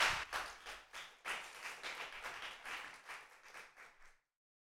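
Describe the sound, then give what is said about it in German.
An audience in the Handybrennersaal hall applauds with dense, steady clapping for about four seconds, fairly quiet overall, then stops abruptly into silence. No one speaks over it. “Applaus!”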